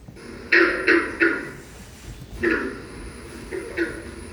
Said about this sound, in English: plays each of the calls to help new volunteers memorize them, starting with the green frog